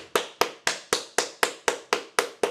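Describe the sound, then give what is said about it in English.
A single person gives a slow clap for Kent and Ken, clapping hands in a steady, even rhythm, about ten sharp, crisp claps at roughly four per second, with no voices. “Slow clap for Kent and Ken.”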